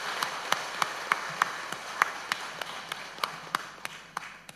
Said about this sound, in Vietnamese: Xin quý vị hãy cho một tràng vỗ tay để tán dương sự thành tựu chung.